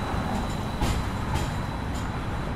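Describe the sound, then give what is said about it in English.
A battery-powered hybrid streetcar in Dallas pulls away over a bridge after a few minutes' charge, with no overhead wires attached. It rumbles steadily along, with a thin high electric whine over the low roar and a few soft clacks from the rails at irregular intervals. No one speaks. “After a few minutes' charge, off it goes over the bridge, no wires attached.”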